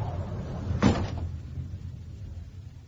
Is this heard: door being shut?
yes